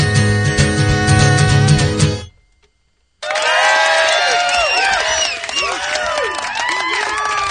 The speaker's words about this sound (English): I don't know where the crowd came from, but that was great.